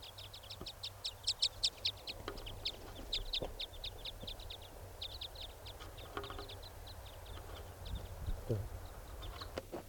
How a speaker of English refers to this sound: Trying to get the type 5 bird. Who's foraging over here? Getting close. I'm walking over to where the birds are.